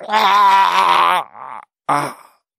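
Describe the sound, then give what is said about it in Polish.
A voice imitates a toad's short pained cry from its wide mouth as a bird's beak clamps it and carries it upward: a strained, wavering groan lasting over a second, then a softer breathy sound and a short final moan before falling silent. “Z oczu jej trysnęły promienie iskier, a z paszczy szerokiej wyrwał się krótki okrzyk.”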